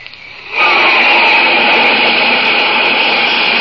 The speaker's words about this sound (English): That's a flight of jet planes flashing across the sky, flying faster than the speed of sound itself. Those fleet, deadly jets are the masters of the air, spreading their wings in battle high above the earth.